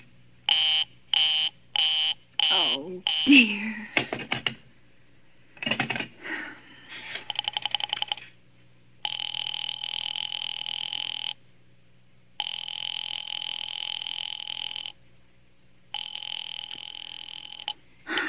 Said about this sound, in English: the line has been busy for a long time, is handled by forcing us to hear each and every dial on the phone, plus the busy signal. Here's that brief scene.